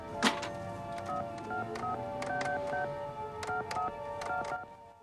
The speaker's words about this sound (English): tries to ring home from a public phone booth.